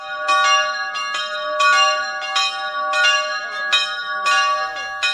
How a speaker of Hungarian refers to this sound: Délelőtt 11 órakor az egykori unitárius harangláb hűmásában megszólaltak az unitárius és a katolikus harangok, jelezve, hogy kezdetét veszi a 26. találkozó.